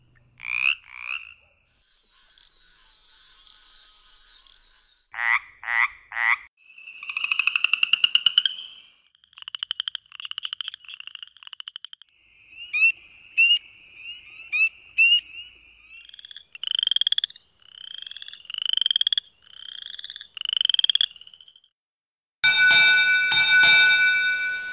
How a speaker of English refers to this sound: We close with a medley of calls from the seven chorus frogs found in Virginia, in alphabetical order. Have a listen for about 20 seconds and see if you can recall their names, mentioned earlier in this episode.